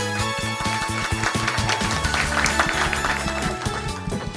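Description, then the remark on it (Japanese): An audience at an IR seminar held in Tokyo on July 30 applauds steadily as a Pronexus presenter is introduced, a dense crackle of many hands clapping together, mixed with a low rhythmic musical backing for about four seconds. “大きな拍手お願いいたします。”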